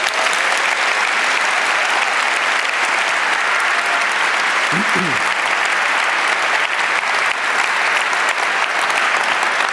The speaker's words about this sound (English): But this guy has been paying full price, and he's still doing his shifts to make this conference work, and I want everyone to give him a warm round of applause.